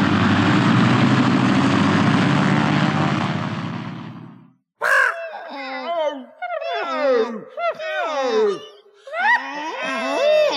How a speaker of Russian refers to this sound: Скорее, скорее, самолет отлетает. Слышишь, уже завели моторы. Посадка заканчивается.